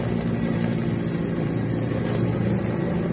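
Firefighting helicopters fighting wildfires in Galicia, Spain, drone steadily, a continuous low mechanical rumble with a faint rhythmic throb and a hissy wash above it, holding constant loudness throughout with no voices.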